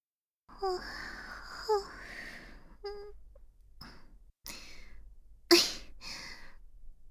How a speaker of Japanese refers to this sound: またあくび出ちゃった。